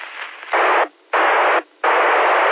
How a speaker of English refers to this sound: I didn't know if I was making the trip, because every time I let off the key, I hear static in the background, so I didn't know if it was me.